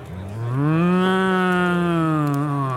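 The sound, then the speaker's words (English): A single long, loud cow moo, low and harmonically rich, swelling in and holding steady for a couple of seconds before tapering off, with no talking. “What's that blue cow? Oh, Moosador.”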